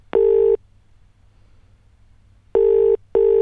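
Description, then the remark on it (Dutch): A telephone call to an SBS staff member: the line sounds its steady, mid-pitched electronic call tone, one beep, a long pause, then two more beeps close together, over a faint low hum. “Die heb ik gebeld, want die zat ook thuis gekluisterd aan de buis het gebeuren mee te maken.”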